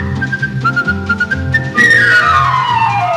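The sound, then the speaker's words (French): A bright whistled melody imitates a bird's song: a few held, stepping notes, then a louder, long downward-sliding whistle, all over a soft musical backing. “Ouvrit la cage à l'oiseau qui s'envola là-haut, là-haut, en sifflant merci beaucoup.”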